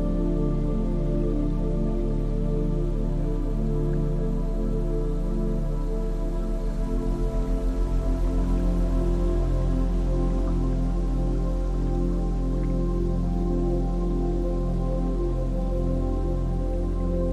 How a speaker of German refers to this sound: Du hörst das leise Plätschern der Wellen, die sanft gegen den Rumpf des Bootes schlagen. Es ist ein rhythmisches Geräusch, gleichmäßig und beruhigend.